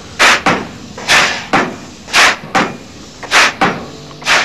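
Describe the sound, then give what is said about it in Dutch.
A pile driver pounds a decorated pile in a steady rhythm, the mayor pulling the ropes for the first blows in a polder being made ready for building, each loud, hissing impact quickly followed by a second, giving about eight harsh bursts in pairs with no voices. “De burgemeester nam de touwen in handen en de eerste dreunen op de versierde heipaal volgden.”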